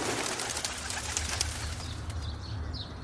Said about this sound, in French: Et ses pigeons se sont envolés d'un seul coup au-dessus du parc.